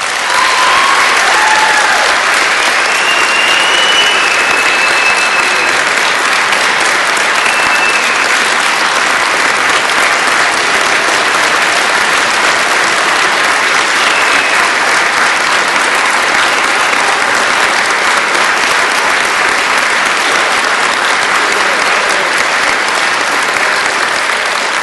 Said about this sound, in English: We all want to salute the brave men and women in uniform. The armed forces, they're out there helping to keep us free. Let's all give them an applause.